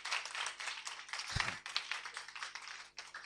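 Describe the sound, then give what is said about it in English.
An audience claps hands during preaching in a dense, continuous patter of many overlapping claps, steady and moderately loud, with one heavier low thump partway through. “You clap your hands.”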